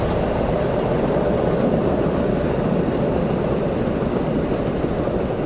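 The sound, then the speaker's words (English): A train rumbles past in an area beside an airport, a loud, steady roar of wheels and carriages that holds without a break for the whole stretch, with no voices over it. “It's not just the airplanes, it's the train, it's the traffic, it's just an oppressive audio environment.”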